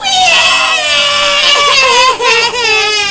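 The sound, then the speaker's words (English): Twin babies, woken by a hoof slammed on a table, wail loudly at the same time, their high, strained cries overlapping in a continuous sobbing stream with only brief catches of breath. “Phoenix blushed and looked around nervously, knowing the judge would blame him for making the twins cry.”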